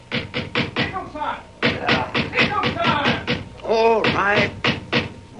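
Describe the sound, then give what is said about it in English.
Someone who has charged up the drive to a house pounds heavily and rapidly on its front door, loud, in repeated bursts of blows, with a voice calling out briefly partway through. “The first I heard of it was when someone charged up the drive to my house and thundered on the door.”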